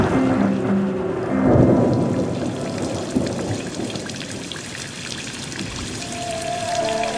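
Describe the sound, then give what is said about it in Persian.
Steady rain pours down with a low rumble of thunder swelling early on, the downpour continuing as a dense hiss throughout, with a faint musical tone entering near the end. “بزن با پنجره حرف دلت را، پچ پچ باران.”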